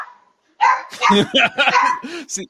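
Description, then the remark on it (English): A golden retriever playing fetch with Herb Street in a hotel hallway yips and barks in a rapid string of short, excited bursts, fairly loud, with the thin quality of sound played back from a video. “I don't know if you saw the video of Herb Street playing fetch with the golden retriever in the hotel hallway.”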